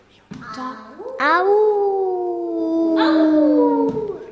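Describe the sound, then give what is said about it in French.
A single long, loud wolf howl, rising into a sustained mournful tone that slowly falls in pitch over about four seconds before fading off. “C'est le caribou? Non. Ça de loup.”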